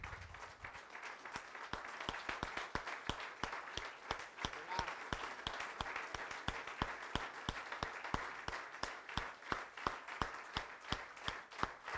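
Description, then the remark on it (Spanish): A church audience stands and applauds in thanks to Jesus at the close of a sermon: sustained, dense clapping from many hands, steady and fairly loud for the whole stretch, with a few sharp claps standing out and voices mixed faintly underneath. “¿Cuántos hoy quisieran unirse conmigo, ponerse de pie y darle un aplauso a Jesús de agradecimiento?”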